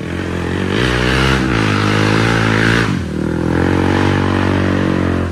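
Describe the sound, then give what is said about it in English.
A loud motorcycle with no muffler revs up and down in Thailand, its raw, rattling roar rising in pitch, dropping briefly, then climbing again with no one speaking. “Guys, do you also like to ride a motorcycle without a muffler?”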